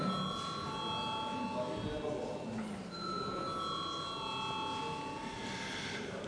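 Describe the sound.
A continuous electric parliament voting bell rings steadily for several seconds, a bright sustained metallic tone, rung to call deputies to vote on amendments to the day's agenda, over a low murmur of voices and shuffling in a large gathering.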